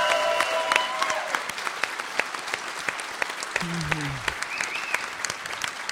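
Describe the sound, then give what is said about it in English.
A crowd at an event claps steadily for several seconds, giving dense, overlapping applause to the man who set the event up, with a few faint voices and cheers rising briefly through it. “So please give this guy specifically a round of applause.”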